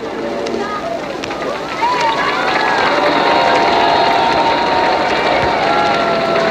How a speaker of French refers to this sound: en bas du bâtiment de la radio du 118 Champs-Élysées, ce sont plusieurs milliers de personnes qui sont groupées pour attendre les dernières nouvelles. Tout le monde entend la Marseillaise que vient de diffuser la radio.